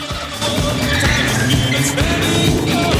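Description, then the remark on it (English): A red coupe's engine revs hard and roars away at speed, loud, with a brief squeal of tyres as it accelerates off in pursuit of another car through a multi-level car park. “Jean and Alex climb into his red coupe and speed off in pursuit.”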